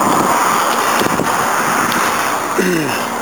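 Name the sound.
wind blowing outdoors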